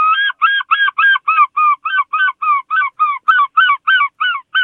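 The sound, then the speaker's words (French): A human voice imitates a herring gull, sending out a fast, steady run of about sixteen loud, nasal yelping calls with no other sounds. “Alors ça, c'est le goéland argenté, c'est un grand classique, c'est l'oiseau des bandes-sons de la mer et des rivages.”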